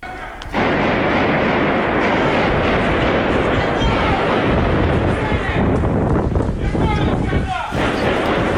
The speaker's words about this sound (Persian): در ویدئویی که از این حادثه در اینترنت منتشر شده، صدای تیراندازی در مقابل ساختمان FSB در مسکو شنیده می شود، اما صحنه تیراندازی معلوم نیست.